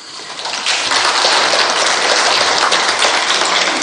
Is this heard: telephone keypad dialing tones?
no